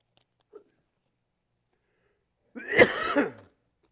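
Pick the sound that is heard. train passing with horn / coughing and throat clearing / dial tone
coughing and throat clearing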